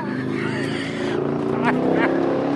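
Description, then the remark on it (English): The engine of a sleek yellow 638-horsepower ZR1 sports car rumbles steadily, a deep continuous growl with a couple of brief rises in pitch as it's revved. “Across the lot, Zofchak shows off his sleek yellow 638-horsepower ZR1.”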